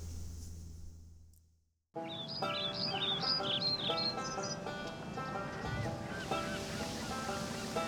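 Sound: river water flowing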